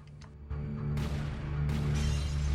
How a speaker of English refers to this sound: flinches as the windows of the house are smashed.